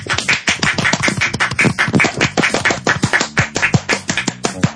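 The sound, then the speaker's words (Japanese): Steady hand clapping fills the whole stretch, a fast run of sharp, bright claps from more than one person, loud throughout with no talking over it. “拍手でごまかすっていうのは先週覚えたのでね、う ん、やましいことがあるほど大きく叩くみたいなね、なんかね。”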